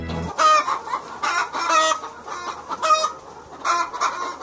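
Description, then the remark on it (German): Several chickens cluck and squawk in repeated bursts, fairly loud, with overlapping calls forming a busy, uneven rhythm and no talking. “Ich schätze mal, Hühner stehen auf Erotik.”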